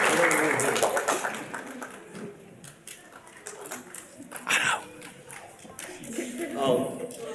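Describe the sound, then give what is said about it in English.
A crowd cheers and applauds in a dense, steady wash of scattered claps and mingled voices, holding at a moderate level with a couple of brief swells. “We got a chair crowd right here.”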